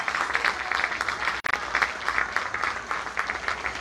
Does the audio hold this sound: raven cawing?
no